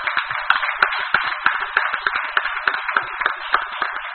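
Applause from a group at a meeting: steady, dense clapping with many overlapping hand claps at a moderate, even level, no voices over it.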